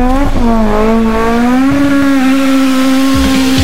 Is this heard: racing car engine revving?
yes